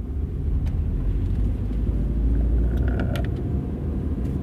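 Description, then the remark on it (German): A steady rumble of a car driving on the road from Düsseldorf toward Neuss, with constant low engine and tire noise filling the whole stretch and a few faint, brief clicks and rattles near the end. “Am Mittwoch habe ich mich ins Auto gesetzt und bin von Düsseldorf Richtung Neuss gefahren.”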